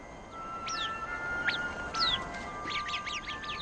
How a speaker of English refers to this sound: This is the Middle East. It is very hard to survive in this hot, dry land. This little creature, known as the Arabian bird, manages to survive in this difficult environment.